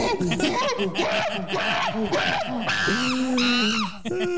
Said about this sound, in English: I know Ray doesn't like it when we play the monkey sound. when he comes on, he's offended by that. He takes umbrage to but it.